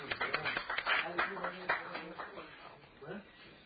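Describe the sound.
An audience applauds the evening's presenters with a dense patter of clapping that is strongest at first and then thins out and fades. A murmur of voices carries on underneath as the applause dies away.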